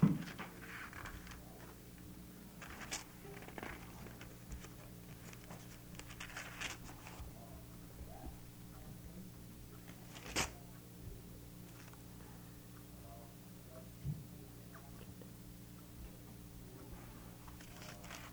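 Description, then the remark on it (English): Soft rustling and crinkling of thin India paper Bible pages being turned, with a few sharper flicks and taps scattered through a quiet, steady background hum; no one speaks. “Nothing like India paper Bibles.”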